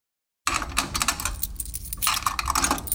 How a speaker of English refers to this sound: But when am I going to have a chance to use laundry sounds?